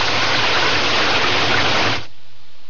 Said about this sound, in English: It's a clear sky above the trees. Maybe we don't get... I was wrong. We get rain again.